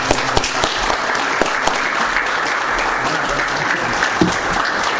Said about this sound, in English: Would you join me in honoring our Heavenly Father and us just offering a hand clap of praise